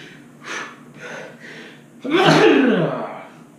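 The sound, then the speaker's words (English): A few quick, breathy gasping inhales build up, then one loud sneeze bursts out and trails off. No one speaks. “oh, after a sneeze.”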